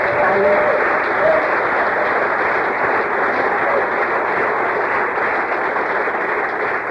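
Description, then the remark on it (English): Steady, dense applause from a sizable audience fills the whole stretch, loud, a continuous wash of clapping hands with no talking over it. “And I don't say that for, like, no applause, right?”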